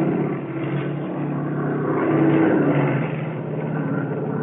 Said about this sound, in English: Equipment showered down as the plane limped through the sky.